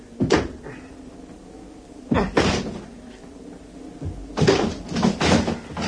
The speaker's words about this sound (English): I'm going to try and force the door.